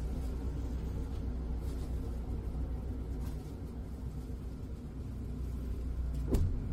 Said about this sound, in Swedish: Hjalmar Brantingsplatsen är en knutpunkt för buss- och spårvagnstrafik i den här delen av Hisingen, och det kommer snart nya bussar.